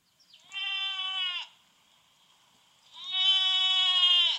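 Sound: sheep bleating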